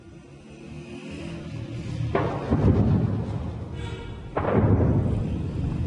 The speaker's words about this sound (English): It's not even 8 o'clock in the morning, and for the last 3 hours we've heard the constant sound of artillery booms, of gunfire, some in the distance, some much closer by.